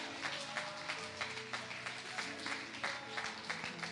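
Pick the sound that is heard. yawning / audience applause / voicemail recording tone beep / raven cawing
audience applause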